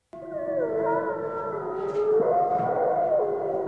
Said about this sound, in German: So heult der Wolf im Wildpark Schorfheide nördlich von Berlin.